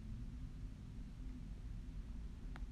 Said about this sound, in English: This is I was trying to put the podcast in two parts because it's like a airplane hovering over my house.